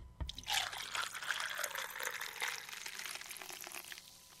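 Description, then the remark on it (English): Amaretto and Dr. Pepper are poured steadily over ice into a glass, a bright splashing trickle with faint clinks, continuous for several seconds before tapering off. “Poured over ice?”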